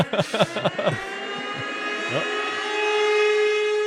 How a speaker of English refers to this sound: So, the Dallas sirens. Dallas's 156 emergency sirens blared in unison and unsettled many of the city residents, and they sounded about 15 times in all, with each signal lasting 90 seconds. All the while with no tornado in sight.